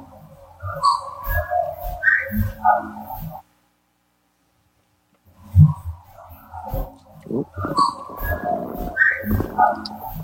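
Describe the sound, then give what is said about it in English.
Whistling tones mingle with knock-ish vocal noises and speech in two busy stretches separated by a couple of seconds of silence; moderately loud. “You have a whistle, you have a knock-ish sounding vocal and speech.”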